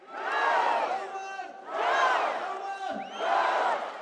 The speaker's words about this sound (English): At this recent rally in the East Georgian town of Telavi, a crowd of thousands fills a main square and stretches far down the street.